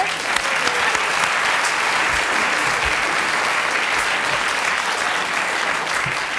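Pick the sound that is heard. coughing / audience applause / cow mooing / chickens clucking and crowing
audience applause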